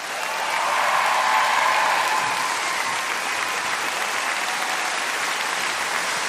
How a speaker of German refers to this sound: Ein riesen Applaus bitte für Felix Lobrecht.